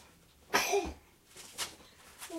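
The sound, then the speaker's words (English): A baby boy gives a small, sharp sneeze, followed by a couple of softer breathy snuffles amid quiet. “Bless you, darling.”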